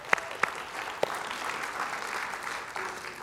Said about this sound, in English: Come on, we should clap for that.